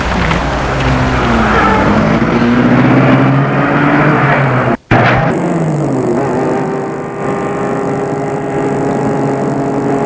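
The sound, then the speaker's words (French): A convertible car with its roof open is started, its engine running loudly and revving up, pitch climbing as it accelerates, then a brief cut and a steady droning hum as the car drives through Paris. “» Puis elle met la voiture en route.”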